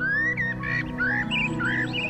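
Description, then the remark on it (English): A bird chirps in a series of short, bright whistled notes that rise and fall, repeating steadily over a constant low droning hum in the background. “Sounds of the bird, the sun and the wind touching your skin.”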